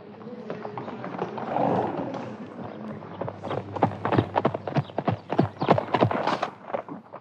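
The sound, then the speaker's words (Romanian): Hooves of a tall horse clip-clop on a hard surface, starting faint and growing into a quick, loud, irregular clatter as the horse arrives, with a low rumble underneath. “Ce cal înalt mi-au adus.”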